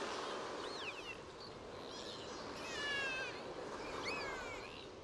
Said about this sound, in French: Arrivé sur les rochers, vous identifiez les cris et les mouvements d'un petit groupe de dauphins qui sont en train de nager près du bord.